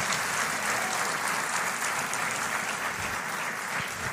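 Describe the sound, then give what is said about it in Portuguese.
A crowd applauds steadily to thank God, a dense wash of many hands clapping at an even level for several seconds with no voices standing out. “Vamos agradecer a Deus com uma forte salva de palmas.”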